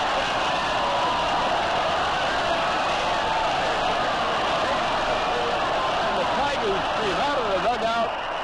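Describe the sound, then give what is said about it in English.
A stadium crowd at Tiger Stadium cheers wildly as the Tigers win the second game of a doubleheader 6-5 with a four-run rally in the ninth inning, a loud, unbroken roar that holds steady throughout, with scattered shouts and whoops rising out of the din toward the end. “and this crowd is going berserk as the Tigers win the doubleheader, getting the second game with a rally of four runs in the ninth inning to win it by a score of 6-5.”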